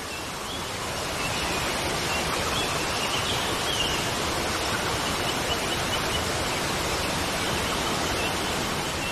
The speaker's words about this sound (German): Und nun spült der Wasserfall all die Schwere aus deinen Füßen heraus. Der Wasserfall spült alles aus dir hinaus, was du nicht mehr haben möchtest.